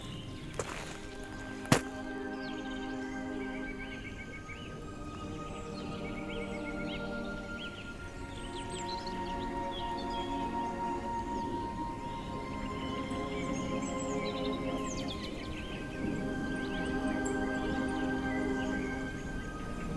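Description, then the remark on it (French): Soft, scattered bird chirps twitter over a steady low humming drone, with one sharp click early on; calm and continuous throughout. “Pour l'instant, la seule chose c'est le silence et les paisibles gazouillis.”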